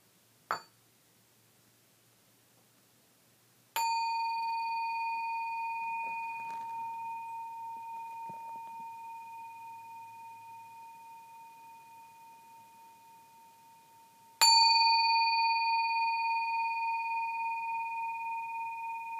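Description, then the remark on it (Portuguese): A meditation bell is rung to begin a meditation: a soft opening tap, then two strikes, each ringing out clear and resonant with a long, slowly fading hum amid quiet. “Eu vou convidar o sino agora, vou tocar o sino 3 vezes e a gente inicia a nossa meditação.”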